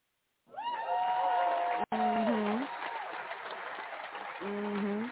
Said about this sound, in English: Hand clap